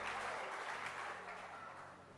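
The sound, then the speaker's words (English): A church audience claps for Jesus steadily, a dense, even wash of many hands applauding together at a fairly loud level, with no voices standing out. “Clap your hands for Jesus, and you may be seated.”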